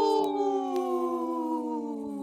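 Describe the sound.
A person imitates a wolf howl: one long, sustained, rich-toned wail whose pitch slides slowly downward over about two seconds, heard on its own without other talking.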